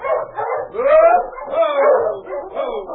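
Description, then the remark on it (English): Several dogs of a sled team yip and bark excitedly in overlapping bursts, with whining, rising cries mixed in, as a dog sled driven by two men arrives; continuous for the whole stretch, with no talking. “There's a dog sled coming."”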